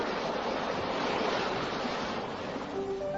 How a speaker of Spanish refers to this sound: El agua, jugando entre rocas, dibuja idílicos manantiales que corroboran el significado del nombre vasco de Urbasa, agua de bosque.